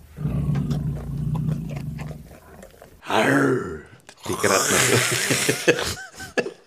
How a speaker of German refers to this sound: Das hat jetzt mehr getönt, wie ein älterer Herr, der schnarchelt in seinem Mittagsschläfchen.